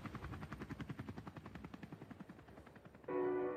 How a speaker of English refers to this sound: Two helicopters hovered overhead. Fireworks were set off. Shots were fired into the crowd.